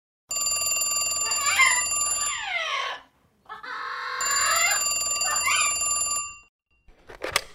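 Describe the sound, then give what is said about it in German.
A telephone rings in an operations headquarters in the early afternoon, two long bursts separated by a short pause, a bright electronic trill with warbling tones, loud, with no one talking. “Sie beratschlagen, was sie als nächstes unternehmen wollen, als das Telefon klingelt.”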